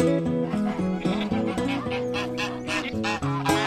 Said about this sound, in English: The farmyard is a cacophony of sounds. Geese, cattle, hens, horses, goats and sheep. A throwback to the small Irish family farm of yesteryear.